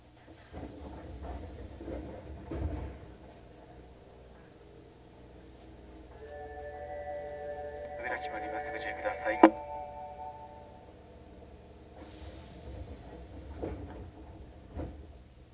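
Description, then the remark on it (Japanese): Inside a subway train stopping at Shitennoji-mae Yuhigaoka station: a tonal squeal and a sharp clunk, then a hiss as the doors on the left side slide open, with a low rumble and faint voices throughout. “四天王寺前夕日が丘。左側の扉が開きます。ご注意ください。”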